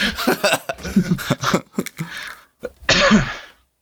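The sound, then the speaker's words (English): Several harsh coughs from a person with a lingering cough, in an irregular burst, with a louder, longer cough at the end before the sound drops to silence. “Okay, that cough came through pretty good.”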